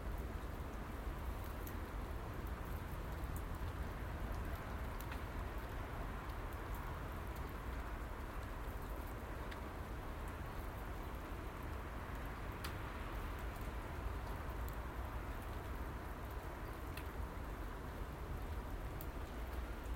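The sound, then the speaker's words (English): Steady, gentle rain patters outdoors on a calm, still Monday morning, in a continuous soft hiss, with scattered droplet ticks standing out now and then; no voices, just the even wash of rainfall throughout. “As a gentle rain falls upon my face.”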